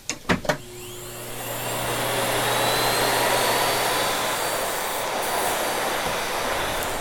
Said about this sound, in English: One company that I love is a company called Miele out of Germany. And listening to a Miele vacuum fire up is just a beautiful sound.